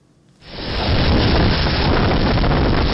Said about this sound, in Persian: لحظه طوفان در نزدیکی مرز آلاباما در کامیره های نظارتی یک مکتب در جنوب میسیسیپی ثبت شده است. شب جمعه گذشته در دو ایالت جنوبی طوفان سخت به عمل آمد.